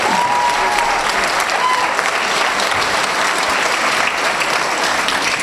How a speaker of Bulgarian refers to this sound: Аплодисменти за танцов център Галаксико!